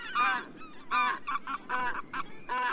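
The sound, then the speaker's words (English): Greater white-fronted geese call in a quick series of high, yelping honks, several birds overlapping in bursts of steady loudness, with no one talking. “As geese go, white-fronted geese are especially strong, athletic flyers.”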